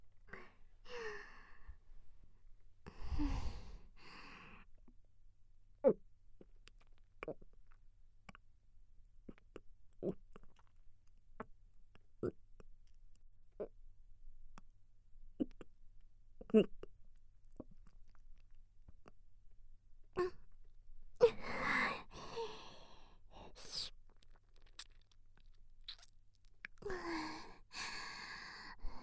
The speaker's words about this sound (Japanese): じゃあ私が尿道から絞り出したばかりの濃いザーメンをごっくんする音、特等席で聞いて。